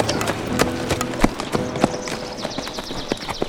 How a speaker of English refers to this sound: They turned their horses to the dirt street and rode out past the townsfolk.